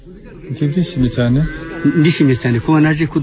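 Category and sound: animal, cattle mooing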